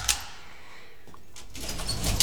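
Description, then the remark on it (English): A key clicks in the lock of a service lift, followed by the mechanical sliding lift door rumbling open, with no talking. “The lift door seems to be locked. I have a key, sir. I always carry one.”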